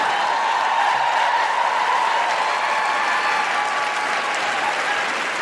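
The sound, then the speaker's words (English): A live audience breaks into loud, sustained applause with scattered cheers and whoops, cheering a woman who left her infant daughter in the care of the child's father to come that night; a dense steady wash of clapping that holds for several seconds. “And just to be clear, we are very much cheering you walking out the door, not a man holding his own baby.”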